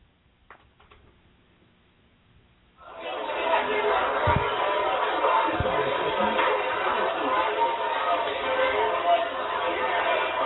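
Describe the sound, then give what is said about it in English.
After a few seconds of near silence, a dense wash of big-crowd chatter in a noisy restaurant with an Irish food buffet swells in abruptly and stays loud and steady, many overlapping voices blending into an unbroken din. “Now, I must tell you, this is a noisy restaurant. Usually, big crowds.”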